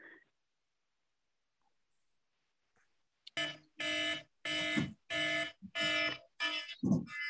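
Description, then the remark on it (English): An electronic alarm suddenly starts beeping in a loud, steady series of long harmonic pulses, about six in a row with short gaps, after a few seconds of near silence. “Someone's having their 844 alarm go off. Or their car alarm's going off.”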